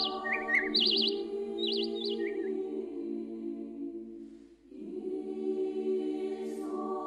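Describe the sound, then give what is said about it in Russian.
Birds at the Gorny (Gornensky) monastery chirp in quick, bright bursts during the first few seconds, set against a steady, sustained low tonal hum that continues throughout. A faint high chirp returns near the end. “Здесь все – земля, солнце, воздух, птицы – благовествуют о былом событии.”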